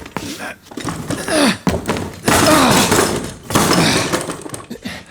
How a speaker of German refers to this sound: Machen Sie schon auf! Oder wir brechen die Tür auf! Tür aufbrechen!